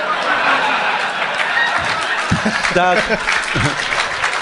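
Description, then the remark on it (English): A Canadian audience applauds, a dense, steady wash of clapping lasting the whole stretch, with a few voices and brief whoops rising out of the crowd noise toward the end. “Don't applaud that.”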